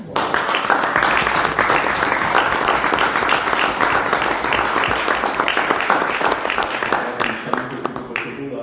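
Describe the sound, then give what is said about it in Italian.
Applause fills a council chamber during a town council meeting of the municipality of Desenello: many hands clapping in a dense, steady patter lasting several seconds at a strong, even level before thinning out near the end. “Grazie, allora penso che come ti dicevo là per fare quello applauso.”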